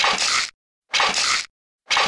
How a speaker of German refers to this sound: das könnte Max Payne sein. Das sind die Painkiller aus Max Payne.